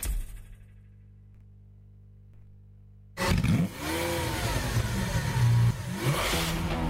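A car engine hums low and steady, then suddenly roars loud, revving repeatedly with rising and falling pitch. There is no talking.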